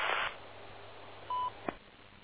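An automated radio system tone on a ham radio net, called the IT, which goes off every 6 minutes: one short, steady, mid-pitched beep over faint hiss, preceded by a brief burst of static and followed by a quick click. No one speaks.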